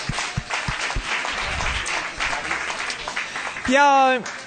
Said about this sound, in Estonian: Me võime teha aplausi neile. Ja jaa, just. Meie tõlgid ka, aitäh tõlgidele. Teeme aplausi tõlgidele ka.